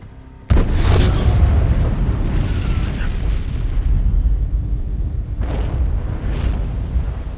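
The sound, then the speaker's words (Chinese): A sudden, loud explosive boom from two airplanes colliding in the sky erupts from silence and rolls into a long, heavy roaring rumble, with a second crashing burst swelling up a few seconds later. “就在此时，天空一阵巨响，抬眼望去，竟然是两架飞机相撞。”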